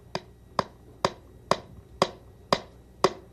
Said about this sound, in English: Remember the hammer? Yeah, well, I thought it was just time to hammer a nail into some wood. I'm interested in tools today.